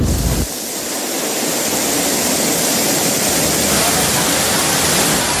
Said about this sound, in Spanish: Riadas, contenedores flotando y árboles caídos. Esta es la imagen que han dejado las lluvias torrenciales en Andalucía.